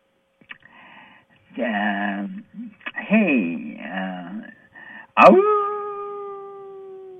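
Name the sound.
wolf howling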